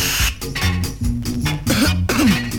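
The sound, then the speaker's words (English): A run of harsh coughs after smoking, about four rough bursts over a couple of seconds, with strained, raspy vocal sounds between them and no clear talking. “No, man, this make me cough, man.”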